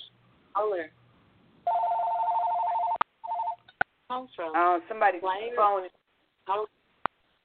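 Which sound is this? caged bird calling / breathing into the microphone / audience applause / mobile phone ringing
mobile phone ringing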